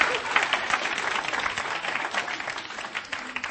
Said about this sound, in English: There is more applause when I say it in French. Vous applaudissez plus et vous applaudissez plus si je le dis en français.